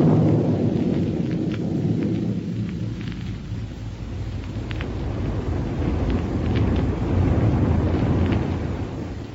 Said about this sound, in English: But let's first pick up Buck and Wilma aboard their rocket plane as it roars along on its way to Dr. Heuer's laboratory in Niagara.